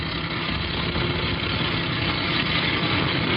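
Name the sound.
truck engine idling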